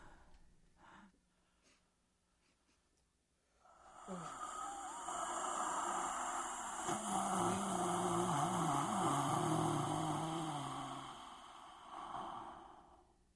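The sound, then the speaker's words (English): Labored, rasping breathing of a dying man: a long, drawn-out wheezing groan that swells after a quiet start, wavers in pitch, then slowly fades, with no talking. “Cessation of breathing. He is gone.”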